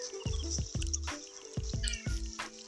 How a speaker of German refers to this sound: Ja, hallo Katze, ich weiß, dass du hier bist.